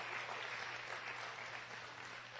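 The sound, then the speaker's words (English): A crowd at Good News Church claps steadily for a woman who brought her 9-month-old baby to Bold Venture, dense overlapping applause from many people at moderate volume, sustained without pause and tapering only slightly toward the end. “deserves a round of applause because she brought her 9-month-old to Bold Venture.”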